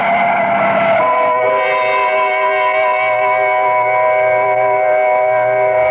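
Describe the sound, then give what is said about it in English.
A truck skids in the street, its tires letting out a loud, sustained screech that rises after a brief rumble and holds steady for several seconds, with no voices. “Look out for the truck”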